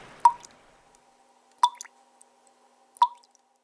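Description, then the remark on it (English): Slow water dripping: three distinct drops land about 1.4 seconds apart, each a short bright plink with a brief ringing tail, separated by near silence. “The reality sounds more like this.”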